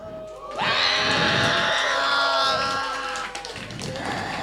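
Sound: people screaming loudly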